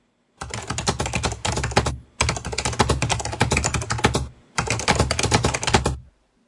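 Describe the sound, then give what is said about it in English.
Rapid, steady typing on a large computer keyboard, fairly loud, in three bursts of dense clicking separated by short pauses. No voices. “We're hearing the keyboard typing, and it sounds good.”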